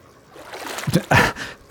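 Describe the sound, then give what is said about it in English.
Water splashes as a green sea turtle, about 70 years old and 450 pounds, thrashes at the surface of a reef tank, with a couple of quick, bright bursts of splatter over a soft watery background. “No, she didn't get your phone wet, did she?”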